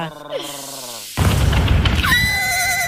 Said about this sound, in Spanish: Ay, es un ruido de caballo.